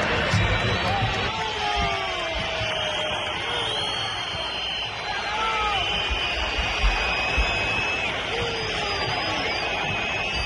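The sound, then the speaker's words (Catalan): A huge stadium crowd at the Santiago Bernabéu roars continuously while countless piercing whistles rise and fall over it, a loud, sustained barrage of deafening jeering whistling from thousands of Real Madrid fans aimed at players such as Vinícius and Bellingham. “Això passava ahir, a les 2 del migdia, al Santiago Bernabéu, xiulades aixordadores contra futbolistes com Vinícius o Bellingham, i això que el Madrid va acabar guanyant la segona part per 2-0, la mitja part hi va arribar amb 0-0”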